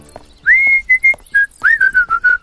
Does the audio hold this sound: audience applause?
no